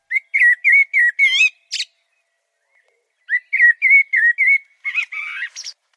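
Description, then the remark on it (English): A blackbird sings two clear phrases of mellow, fluty whistled notes, each verse about 3 seconds long and ending in a high, scratchy twitter, separated by a short silence. Fairly loud, no voices. “So the blackbird, 3 seconds, fluty, with a twiddle at the end.”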